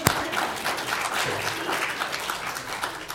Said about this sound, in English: I would like everybody to give God a round of applause for the human wrist.